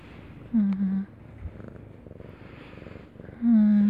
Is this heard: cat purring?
yes